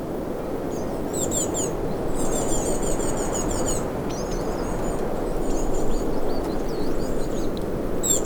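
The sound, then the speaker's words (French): Several birds chirp and trill in quick, repeated phrases high above a steady rushing background, like wind or leaves, in an open outdoor setting with no voices. “Les oiseaux.”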